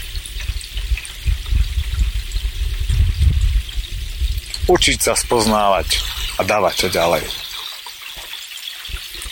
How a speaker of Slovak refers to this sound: Tak ako táto vodička spoznáva každým krokom, každým žblnkotom, každý kamienok. No, niekoľko tých kamienkov som vybral dnes, sa priznám, z toho potločíka, aby som upravil okolie prameňa.